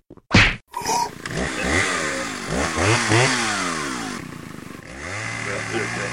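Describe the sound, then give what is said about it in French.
A chainsaw sputters to life after a sharp starting pull, then revs up and down repeatedly in loud, rising and falling bursts before settling into a steady idle. “Pas si je pique sa tronçonneuse avant.”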